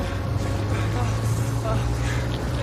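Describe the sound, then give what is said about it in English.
An outboard motorboat engine drones steadily as the boat gains momentum, a low humming roar mixed with rushing water as its blades churn the water white, continuing throughout without pause. “Its blades churn the water white as the boat gains momentum.”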